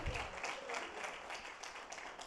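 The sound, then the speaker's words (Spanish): An audience bursts into sustained applause for the King, a dense steady wash of many hands clapping at once with no single beat standing out, holding at an even loudness throughout. “Amén, que se escuche fuerte ese aplauso al rey.”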